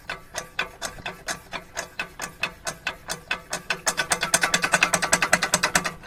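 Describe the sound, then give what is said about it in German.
A hand water pump is worked forcefully in steady, squeaky mechanical strokes that speed up and grow louder partway through, becoming a rapid rhythmic clatter, until water starts to flow. No one speaks. “Man muss mit äußerster Brutalität gegen diese Pumpen vorgehen.”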